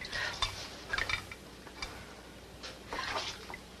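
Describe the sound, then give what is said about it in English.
Dishes and cutlery clink and clatter in irregular bursts as someone washes up, a few sharp knocks of crockery and metal mixed with soft stirring and splashing noises, quiet, with no voices. “Jeff, where are the rest of those dishes?”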